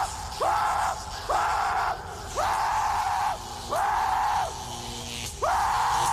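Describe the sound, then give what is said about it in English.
A person lets out five loud, drawn-out screeching screams in steady succession, each rising sharply then holding, mimicking a creature's cry, with brief pauses between. “Because I like to scream like...”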